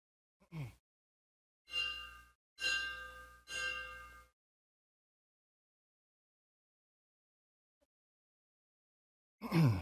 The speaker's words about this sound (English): As Captain Torlano rings the bell